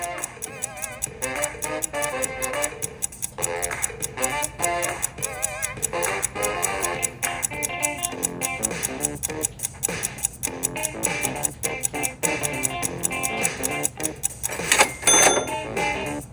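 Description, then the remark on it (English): A ticking clock countdown plays as a timer for a cake-cutting puzzle over a busy, tense musical bed, steady rapid ticks running throughout at moderate loudness, with a brief louder swell near the end; no voices. “Time's a-ticking, and your guests are waiting for their cake, so get going.”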